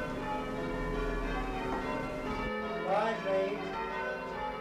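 Church bells of the parish church of St. Peter and St. Paul in Albury ring out to announce a service, with a dense, sustained wash of overlapping metallic tones, steady and fairly loud, then shift partway through as new strikes ring and fade.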